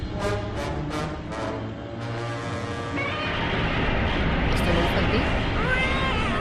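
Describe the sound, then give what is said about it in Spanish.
A human voice imitates the roar of Godzilla, the giant monster of Japanese films: a few short harmonic bursts, then a long, loud, strained screech that sounds almost like a yowling cat, continuous. “Parecías un gato despellejando. Es el señor que estaba dentro de Godzilla.”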